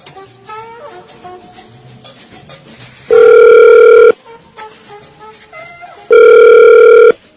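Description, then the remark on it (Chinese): Two loud, steady electronic phone rings, each lasting about a second and spaced a couple of seconds apart, as a call placed to invite someone to a turkey party rings out on the line, over soft background music. “好，大家要接电话啊、哦。”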